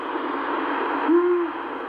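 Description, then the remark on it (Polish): A single soft, whistled Eurasian pygmy owl hoot, a short low tone held for under half a second, over a steady background hiss with no voices. The pygmy owl is a small owl about the size of a starling. “Przepraszam, suweczka. To była suweczka.”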